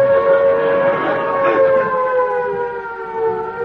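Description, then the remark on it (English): An air raid siren wails loudly and steadily, its rich droning tone sliding slowly downward in pitch, sounding alone with no voices over it. “It's a good job the siren hasn't gone, isn't it, Mr.”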